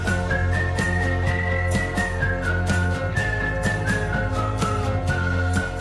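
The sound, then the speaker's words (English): A whistled melody glides along on top of a full band song, steady beat and instruments underneath, the whistle carrying the tune clearly throughout with no singing voice. “it was a real song by real musicians who know how to sing and know how to play, and the whistling was fun.”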